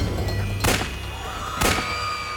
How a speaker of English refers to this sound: A loud gunshot rang out, followed by another. The Pope clutched at his chest and fell backwards into the arms of his aide.